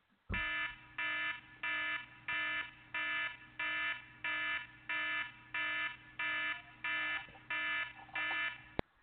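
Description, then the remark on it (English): A loud, harsh electronic alarm blares in about a dozen evenly spaced bursts, each sustained briefly before cutting off, over a steady low hum, with no talking. “Time to sound the alarm on a couple of these.”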